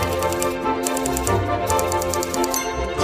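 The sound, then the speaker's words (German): Rapid, steady clattering of Bob Cratchit's typewriter keys in a cold office, a dense run of sharp mechanical strikes with no speech over it. “Das Klappern seiner Schreibmaschine war wohl das einzig angenehme Geräusch in diesem kalten Büro.”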